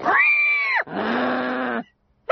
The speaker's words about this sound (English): Please, get rid of that pig! Oh, you're gonna love him. Look, he does an impression of you.